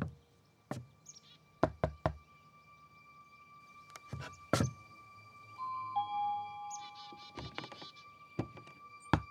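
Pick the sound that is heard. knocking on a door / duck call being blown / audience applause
knocking on a door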